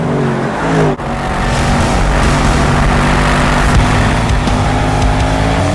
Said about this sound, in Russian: Узнаете тачку по движку? По выхлопу? Сейчас начнется, вот он.